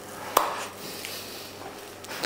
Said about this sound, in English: Where are my gloves? Looks pretty good there now. You can hear the crackling of the paper.